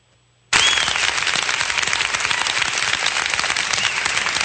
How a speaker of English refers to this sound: Now, that is the school board meeting of September 12th. Well, so why are they cheering? Why are they cheering?